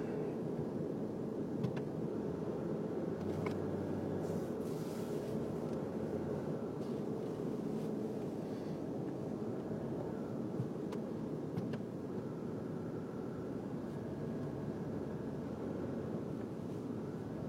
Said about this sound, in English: This is some fucking traffic.